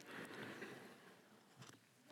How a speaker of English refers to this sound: Let me take another sip while you think about that.